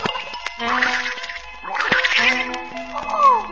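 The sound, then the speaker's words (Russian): Frog croaking in two long, buzzy, warbling bursts separated by a short pause, with a thin whistling glide near the end; fairly loud, no voices. “Кто это? По-моему, так говорит лягушка.”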